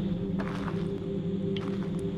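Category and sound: human body sound, footsteps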